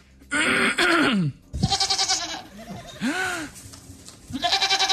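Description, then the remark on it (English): A person imitates a goat with several loud, wavering bleats in quick succession, each a strained, nasal cry with a shaky vibrato, recorded in a studio, without other sounds. “that was a goat. That, and I did that. I made that noise.”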